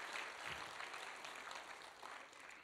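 A crowd applauds steadily, many hands clapping in a dense, even patter that carries on throughout, heard from a little distance with no voices standing out.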